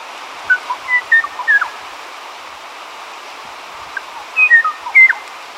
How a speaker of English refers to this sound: The demise of the Kauai o'o was greatly hastened by mosquito-borne avian diseases, where neither the mosquito nor the disease was native. At least we have this recording of the o'o's song to remember it by.